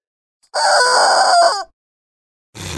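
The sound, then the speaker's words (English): A toy chicken lets out a loud, drawn-out squawk lasting about a second, then falls silent before a second squawk starts right at the end. No voices. “The herd of chickens. How many of those do you have?”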